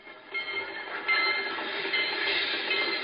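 riding

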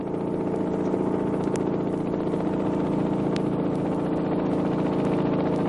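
helicopter landing

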